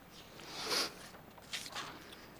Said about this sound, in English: Need a quick sip here.